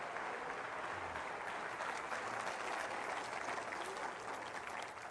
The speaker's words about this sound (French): Quelqu'un devrait dire amen. Quelqu'un devrait applaudir le Dieu fidèle qui a fait une promesse.